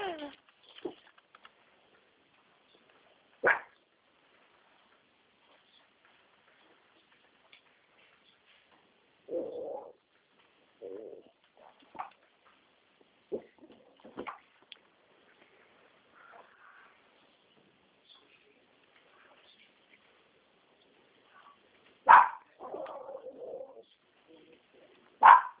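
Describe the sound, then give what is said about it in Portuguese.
A small female dog gives a handful of short, sharp yaps scattered irregularly over about twenty-five seconds, with quiet gaps and a few softer muffled sounds in between, heard over a thin, phone-like line. “Tem um doguinho latindo aqui.”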